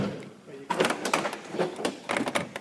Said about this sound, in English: I'm walking through the back door into the langar, or dining area.